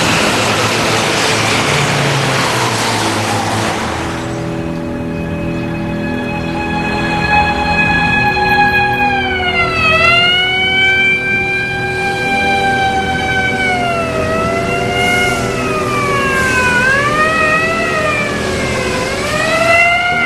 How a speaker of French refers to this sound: Il y a très peu de passants dans les rues, presque pas de voitures. Et l'on entend circuler souvent des ambulances.